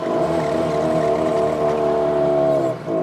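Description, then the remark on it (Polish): A motor drones loud and steady with a low, buzzing hum, then briefly stumbles and dips near the end as if sputtering before catching again, as it runs out of fuel and must be switched to the reserve tank. “O, i zdech. A, na rezerwę.”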